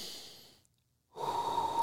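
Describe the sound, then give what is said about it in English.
A voice imitates a man's loud, heavy breathing while giving a massage, with a long airy exhale, a brief silent pause, then a forceful, raspy inhale. “But he's giving me the massage, and he's breathing like this loud.”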